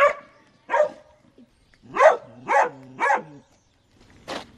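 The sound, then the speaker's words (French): A dog barks about six times in short, sharp bursts, loud, with irregular pauses between groups of barks and no talking over them. “Il défend juste son territoire en aboyant.”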